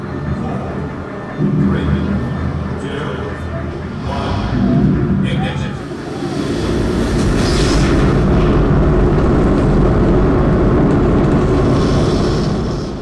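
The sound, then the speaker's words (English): A Saturn V rocket engine test stand firing from the 1960s, played in an interactive exhibit: a deep, crackling roar that swells after a few seconds into a loud, steady, rumbling blast, with indistinct voices murmuring early on. “crowd around an interactive exhibit on the test stand firings of the Saturn V.”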